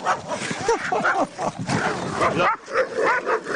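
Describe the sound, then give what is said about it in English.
A high-energy security dog on a walk barks and whimpers excitedly in quick, repeated bursts, with yips mixed in, while people talk in the background. “That's what happens when you walk with a high-energy security dog.”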